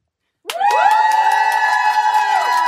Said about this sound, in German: wenn es Jubelschreie gibt hier live auf Radio FM Quattro, dann heißt das, dass Leute hier sitzen im Sendestudio